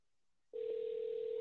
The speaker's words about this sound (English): See, we're dialing like we're in the radio station.